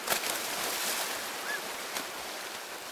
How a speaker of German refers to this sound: springt hinein ins Wasser.